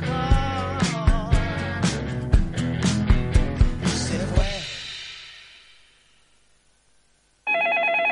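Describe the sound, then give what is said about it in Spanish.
Upbeat music with punchy hits fades into near silence, then a loud electronic telephone ring from a caller to a radio program suddenly cuts in at the very end, steady and bright, cut off after under a second. “Bueno, Fortuna, ¿quién está en el teléfono?”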